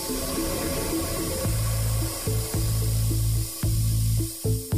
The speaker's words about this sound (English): there is actual video footage taken with a special filter that clearly reveals this particular abandoned well venting gas. And Ervelina says when nearby horizontal wells are being fracked, the well hiss is louder.